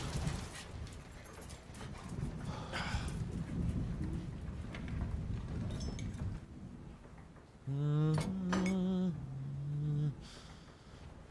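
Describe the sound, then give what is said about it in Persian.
Heavy rain pours down in a steady, dense hiss that fills the scene, followed near the end by a few loud, sustained tonal blasts cutting over the downpour. “این فقط یه بارون شدیده.”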